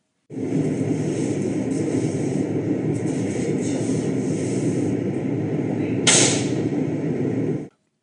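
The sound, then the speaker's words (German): A lithium-ion cell's safety valve bursts: a loud, steady rushing roar of venting gas for several seconds, punctuated near the end by one sharp, gunshot-like crack before it cuts off abruptly. “Das klang jetzt eher wie ein Schuss. War das jetzt das Sicherheitsventil einer Lithium-Ionen-Zelle? Ja, das war eins.”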